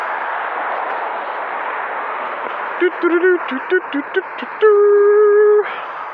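A string of short, choppy vocal yelps leads into a loud, sustained, steady-pitched scream lasting about a second, made as an edit mark in a voice recording, all over a constant hiss of background noise.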